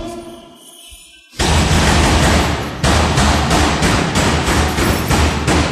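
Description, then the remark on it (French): After a quieter opening second, loud, rapid heavy bangs erupt and continue relentlessly, a dense pounding as a prison inmate bangs against his cell door. “Là, il y en a un qui cogne contre sa porte.”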